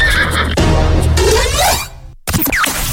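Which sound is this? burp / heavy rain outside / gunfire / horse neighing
horse neighing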